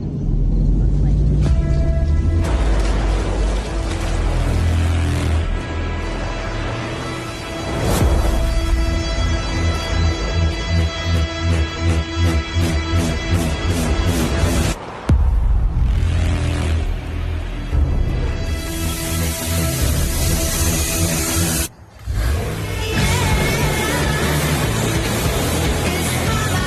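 A song from a Ford truck commercial video plays loudly and continuously, full and dense with a steady driving rhythm, a brief pause near the middle and a short dropout later before the music resumes.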